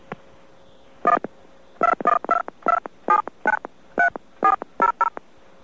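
A quick run of about eleven telephone keypad DTMF tones dialing a number, short two-pitched beeps in uneven clusters, clear and close with no one talking.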